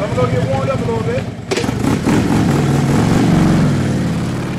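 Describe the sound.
A police officer's motorcycle engine roars, revving and shifting in pitch as he rides it through several obstacles in a stunt demonstration for children at a police camp, after a brief moment of voices at the start.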